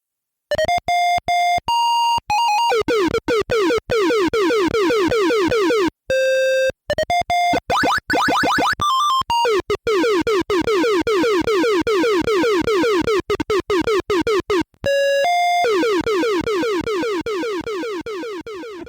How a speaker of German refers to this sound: Er muss immer hin und her springen und das ist ganz schön verwirrend. Und ihr könnt ja mal versuchen zu bestimmen, was von den folgenden Piepsgeräuschen jetzt Musik sein soll und was Spielesound.